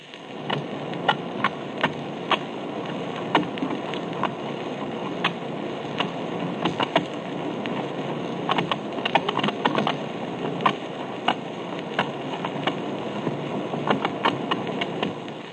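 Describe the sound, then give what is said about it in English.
A Garibaldi fish, a species found off the coast of California, clicks underwater, probably with its teeth: sharp, irregular clicks, sometimes single and sometimes in quick clusters, pop out over a steady hiss of murky water noise. No one speaks. “This species produces clicking noises, probably with its teeth.”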